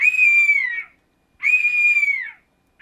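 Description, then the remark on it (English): A bird of prey screeches twice, each loud, high, harsh cry lasting nearly a second and trailing off slightly, with a brief gap between and a third cry just beginning. “I believe that's a bird of prey, although it sounds like an entire kindergarten being murdered, which I guess you can get away with if you happen to be in a place where birds of prey hang out.”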